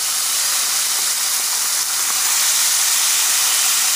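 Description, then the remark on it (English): Loud, steady sizzling as chicken is added to spices frying in hot oil while cooking nihari, a dense crackling hiss that holds constant throughout, with no one talking. “So we've got our spices frying here. I'm gonna go ahead and add our chicken.”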